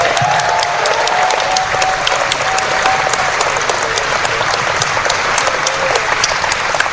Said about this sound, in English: So everyone, give a round of applause.